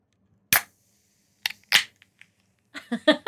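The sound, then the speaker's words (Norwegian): An ice-cold soda can pops open with a sharp crack, then more snapping and a quick fizzy hiss, a few faint clicks, and a brief run of voiced sounds to finish. “Men det du hørte lyden av der, den iskald boks med sol og super.”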